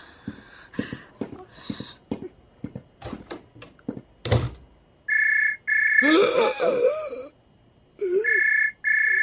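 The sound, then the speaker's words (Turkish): A telephone rings in repeated electronic bursts, loud and close, after a stretch of footsteps and knocking sounds; a voice briefly speaks over the ringing midway. “Zəng açdılar.”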